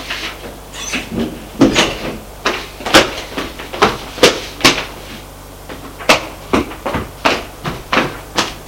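A door being opened, heard as a long run of sharp clicks, knocks and latch rattles repeating every half second or so, fairly loud with no voices.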